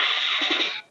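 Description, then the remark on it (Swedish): A boy imitates a magpie with one harsh, raspy, hissing screech, held steady for nearly a second before it cuts off abruptly. “Det var en sista skata. Ja, det var en skata.”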